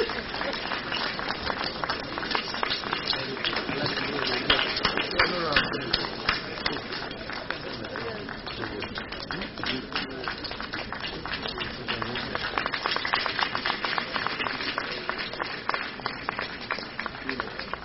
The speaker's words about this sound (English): Please, let's applaud this moment. Let's applaud this moment.